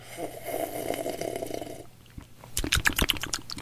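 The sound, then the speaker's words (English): A long, noisy slurp of Mountain Dew lasting nearly two seconds, then a rapid run of wet lip smacks and clicks, with no one talking. “I'm like, you can taste it just fine without smacking your lips.”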